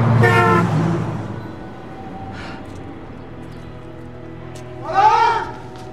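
A loud car horn from an oncoming car blares for nearly a second, then fades into a steady low rumble of the passing vehicle, with another brief, wavering blare near the end.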